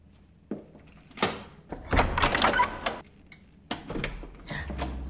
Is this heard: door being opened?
yes